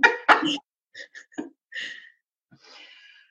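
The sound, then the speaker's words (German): A loud, harsh cough bursts out first, followed by a few smaller, scattered coughs and throat-clearing sounds, ending in a breathy exhale, with no talking. “Okay, nach dem Husten dann.”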